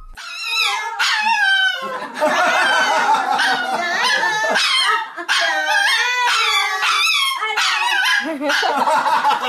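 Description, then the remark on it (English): A white dog named Ellen, doing her trick of singing on command, lets out a run of loud, wavering, high-pitched howls, each rising and falling in pitch, overlapping with excited human voices yelling for her to sing that keep up throughout. “Everyone here is yelling, sing, Ellen, sing, sing.”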